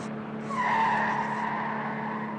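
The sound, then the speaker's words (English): A car engine drones steadily, and about half a second in a drawn-out tire squeal rises over it, then fades back into the running motor. “Stop the car. No, we're not there yet. And we won't get there with you driving.”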